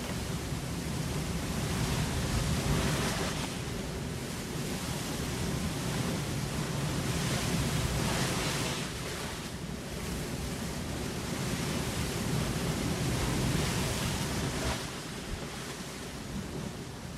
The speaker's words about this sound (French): La pluie se met à tomber à grosses gouttes.